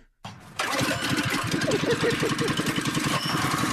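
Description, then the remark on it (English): A basement pump motor that cleans out the basement kicks on abruptly after a brief click and settles into a loud, rough chugging rumble with a rapid, steady pulse. “It's the pup that cleans out your basement.”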